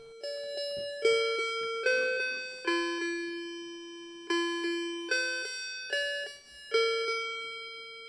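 A clock striking midnight, twelve o'clock at night, chimes a slow melodic run of clear bell tones, each note struck about once a second and left to ring, fairly loud with no voices.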